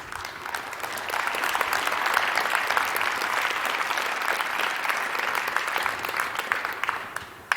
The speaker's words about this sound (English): I've given that talk in front of many regulators. You're the first ones to applaud. I really liked it.